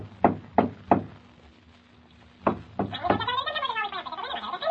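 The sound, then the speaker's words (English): Three sharp, loud knocks from a door knocker on a bright red door in quick succession, a pause, then two more, as an elf swings back and forth on the knocker, followed by a warbling, muffled voice-like sound. “He tried to get me to open the door, but when I wouldn't, he jumped onto the door knocker and swung back and forth on it.”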